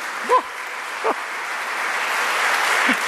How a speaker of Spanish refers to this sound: Un aplauso a los hijos de Dios.